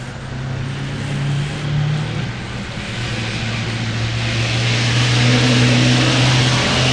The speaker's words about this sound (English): Just one of the many big logging trucks that happen to be passing by our temporary QTH here just south of Sault Ste. Marie, Michigan.